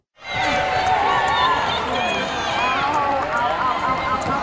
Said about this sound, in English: It's the seal hop, and that squeaking noise is the boys' knuckles skidding on the floor as they hop in plank position.